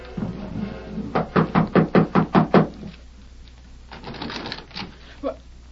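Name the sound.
knocking on a door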